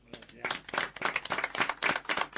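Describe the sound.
Audience applause at the close of the Radio Tarumba programme: a dense, steady patter of many hands clapping at once, holding at a fairly even loudness throughout, with voices mingling underneath.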